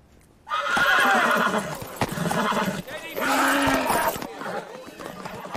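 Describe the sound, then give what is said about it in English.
A horse, Boris from Hobson's livery, whinnies loudly in two long, quavering bursts, with a few hoof clops on hard ground between them. “Are you the one who wants some extra fizz in his horse?”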